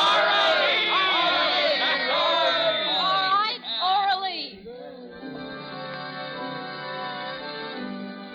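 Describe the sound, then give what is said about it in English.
A crowd of many overlapping voices yells and whoops loudly for a performer, then after about four seconds subsides into a quieter, steady murmur of voices that continues to the end. “They're yelling for you”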